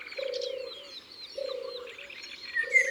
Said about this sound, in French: Il y a un loriot pas loin.